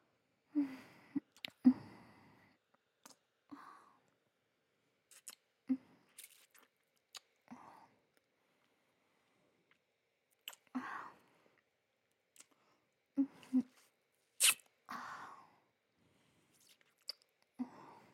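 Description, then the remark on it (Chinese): Wet chewing and mouth smacks as someone eats a soft chocolate shaped like a puppy, coming in irregular bursts separated by short quiet gaps, with no talking. “好了，接下来轮到姐姐来品尝小狗了。”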